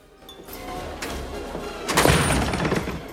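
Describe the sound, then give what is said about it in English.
Jim kicks open the gold-paneled doors of a study: a dull knock, then a loud, sharp crash about a second later, followed by a clattering, rattling tail as the doors swing. No one speaks. “Jim kicks the doors open and goes in.”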